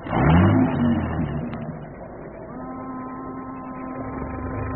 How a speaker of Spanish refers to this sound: Pon en marcha el auto. Tienes que dar la vuelta a la esquina para situarnos en la parte posterior de ese café.